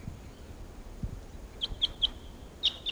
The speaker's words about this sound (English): Now, at 7:13 a.m. on October 13th, and a flock of about 8 Type 6s are here at Barfoot Park, calling to the decoys. And these are the wild birds.